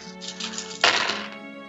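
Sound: rolling many dice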